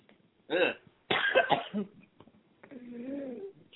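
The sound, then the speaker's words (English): A person coughs after swallowing wrong, one short harsh cough and then a longer, rougher fit, followed by a brief strained vocal sound. “Is that a cough for the last 2 days?”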